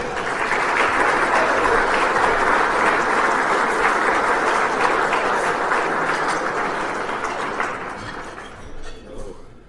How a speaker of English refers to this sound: Well, thank you very much. That applause sounded really good, and I haven't even done anything, so that was nice of you this morning.